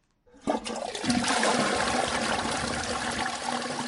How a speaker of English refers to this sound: A flushing enclosed toilet. It's something people in many parts of the world take for granted.